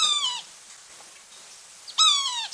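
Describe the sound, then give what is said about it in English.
A sapsucker gives two nasal, mewing calls about two seconds apart, each a short cat-like downslurred squeal, clear against a quiet background. “Maybe we could hear that one more time since we just love sapsucker calls.”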